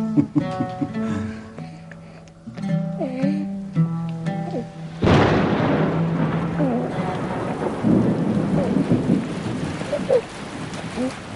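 rain with thunder

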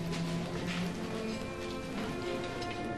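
heavy rain falling

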